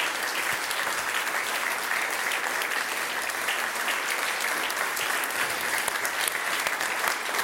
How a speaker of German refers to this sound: Lucia Lucas, Ihr Applaus.